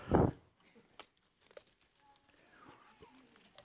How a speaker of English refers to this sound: I love hearing those pages turn. Matthew 28.